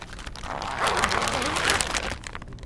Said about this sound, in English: We're folding the suit down as we go, keeping all the contamination on the outside, not touching the person that's in the suit. Because now we just help him doff that part.